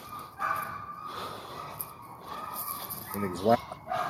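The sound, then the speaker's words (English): Dogs whine and whimper in short, high-pitched bursts, with one louder rising cry near the end, against a steady noisy background, as they are about to be taken out to pee. “Your dogs? Oh, yeah. I'm taking them out. I'm to pee real quick. They're crying.”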